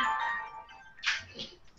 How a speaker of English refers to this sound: I've got a phone call. Sorry.